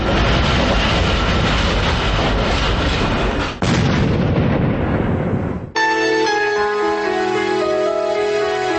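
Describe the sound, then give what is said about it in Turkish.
A metro train roars along in a loud, steady rumble, broken by a sudden sharp burst partway through, evoking a terrorist attack on a metro train, before the noise cuts off and sustained musical tones take over. “Və 58 il sonra onun özü metro qatarında törədilən terror haqqında yaşamını itirdi.”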